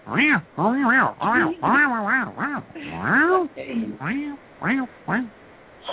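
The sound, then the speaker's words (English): A person's voice mimics a cat, making a rapid string of about ten short, rising-and-falling meows, fairly loud, with no ordinary speech between them. “Yeah, I speak their language.”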